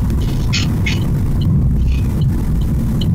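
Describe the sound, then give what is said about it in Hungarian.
A steady low engine rumble from inside a car, with a repeated light knocking or ticking sound coming roughly every half second throughout. “Ezt még én is hallom, hogy kopog valami”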